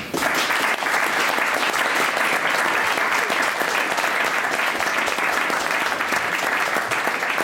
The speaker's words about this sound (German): Sie lässt Münzen von einer Hand in die andere und von da auch wieder zurück in ihre Tasche wandern. Wieder Staunen und Applaus.